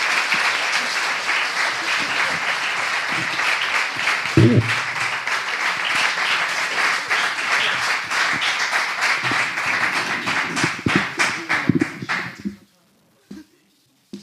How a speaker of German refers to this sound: Auch nochmal einen riesengroßen Applaus an unseren Chef,